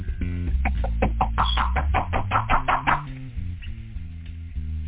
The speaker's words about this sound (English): They're knocking at this time right now. I don't like being disturbed when I'm in here counting money,